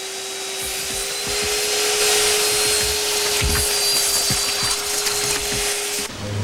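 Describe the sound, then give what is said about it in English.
A vacuum cleaner in a shed sucks up spilt paint, with a steady droning whine and broad rushing hiss and small rattles and knocks, before cutting off abruptly near the end. “In the shed, Dennis drags a vacuum cleaner over to suck up the spilt paint.”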